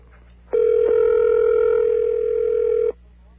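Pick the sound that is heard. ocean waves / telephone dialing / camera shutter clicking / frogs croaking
telephone dialing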